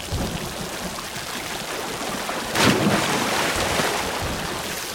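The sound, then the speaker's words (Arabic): A steady downpour of heavy rain hisses throughout during a storm at sea, and about halfway through a single thunderclap cracks, leaving a deeper rumble under the rain. No one speaks. “ارموني في البحر، عندها ستهدأ العاصفة والله ينجيكم.”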